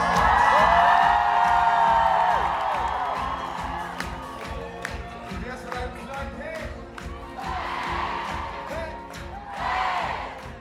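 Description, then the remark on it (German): A large concert audience in Zürich cheers and whoops loudly after the band says goodbye, with shrill whistles and rising shouts, rhythmic clapping underneath and bursts of renewed excitement swelling toward the end, calling for an encore. “aber das Publikum hat natürlich noch lange nicht genug gehabt.”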